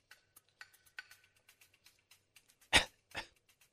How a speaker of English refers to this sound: that was a cough. Yeah. That wasn't a laugh.